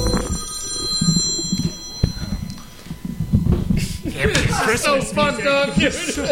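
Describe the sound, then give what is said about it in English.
A phone rings for an incoming call with a bright, high electronic trill during the first couple of seconds, fairly clear over a busy background, before people start talking over it. “Oh, I got my niece on the phone. Oh, we got a caller.”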